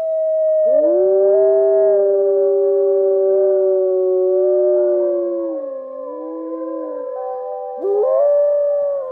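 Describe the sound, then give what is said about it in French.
Several dogs or wolves howl together in a loud, sustained chorus, their long wavering tones overlapping and sliding up and down for several seconds with no talking. “On lui sacrifiait des chiens et des loups parce qu'ils hurlent à la lune, notamment les jours de pleine lune.”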